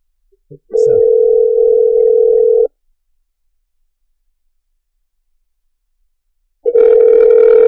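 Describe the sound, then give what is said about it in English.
An outgoing phone call ringing on the line: a steady, droning ringback tone lasts about two seconds, falls silent for several seconds, then starts again. Clear, with no voices. “Can you hear it ring? Oh, yeah, I can hear it.”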